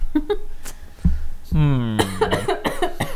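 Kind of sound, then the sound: human body sound, coughing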